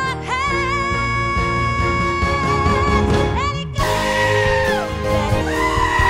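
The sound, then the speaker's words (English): A loud chorus of goats bleating over one another on a farm in Leiden that keeps 82 goats, wavering cries overlapping continuously throughout, without pause. “So I brought home a baby goat and the rest is history. We started with one. Today we have 82.”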